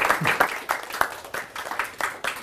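Audience applause thanking a guest: a dense patter of many hands clapping steadily at moderate loudness, with sharper individual claps standing out in an irregular rhythm.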